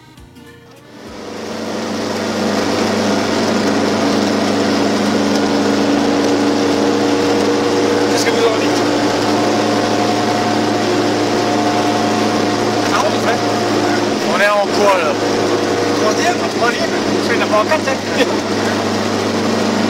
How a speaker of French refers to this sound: Si le problème du chauffage fut résolu assez rapidement, le bruit et les vibrations étaient bien présents. Fermez les yeux, vous êtes à bord d'une 4 chevaux.